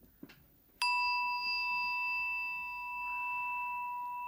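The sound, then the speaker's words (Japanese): A single bright chime from a Buddhist rin bell, struck once, ringing out with steady high metallic tones that sustain and slowly fade over several seconds, with no one speaking. “本当にこのチーンがね、はい、うん、リンの音がご愁傷様に聞こえます。”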